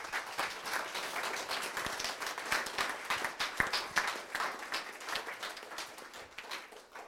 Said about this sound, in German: Herzliche Gratulation, das wollen wir doch mit einem grossen Applaus tun.